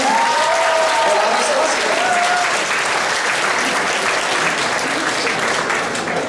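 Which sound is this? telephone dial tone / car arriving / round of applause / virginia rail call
round of applause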